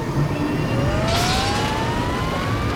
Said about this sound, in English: Fire up the engines!